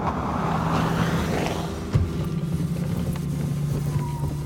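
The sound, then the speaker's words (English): A car engine rumbles as a car pulls up in a diner parking lot, its noise easing from a broader whoosh into a steady low idle, with a brief knock partway through. No one speaks. “Eventually, a car pulled up.”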